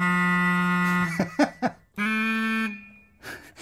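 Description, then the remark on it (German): A normal car horn, altered and pitched lower, honks deep and buzzy in a long steady blast, then a few short choppy beeps, then a second sustained blast, ending with a brief noisy rush. “Okay, eine normale Hupe nehmen und die... Verfremden einfach. Und tiefer machen.”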